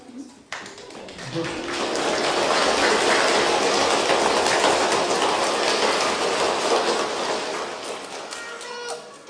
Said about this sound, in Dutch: Dit applaus is voor alle kinderen die een schoenendoos hebben gemaakt.